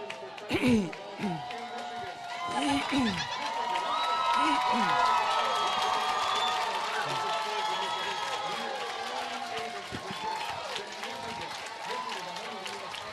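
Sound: crowd cheering and applauding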